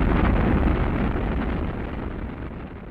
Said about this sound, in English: Mission sequence start. 6, 5, 4, 3, 2, 1, 0. All engines running. Commit. Liftoff. We have liftoff. 11:22 a.m. Eastern Standard Time.